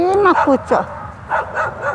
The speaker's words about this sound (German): Na Hunde, ist es kalt, ruft sie ein paar Streunern zu.